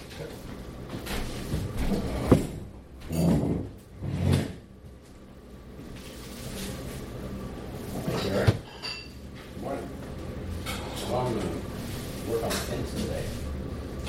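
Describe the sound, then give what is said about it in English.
Dishes being washed: scattered clinks of crockery and utensils, a few louder thumps and scrapes like drawers or cupboards sliding shut, over a steady low background of kitchen noise. “I haven't done anything where effort expended is result seen, so I must do the dishes so I can see that I do.”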